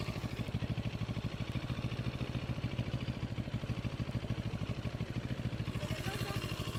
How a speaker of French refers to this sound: C'est une CF moto. Je connais pas du tout, non. C'est une 700, donc je vois que c'est un bicylindre.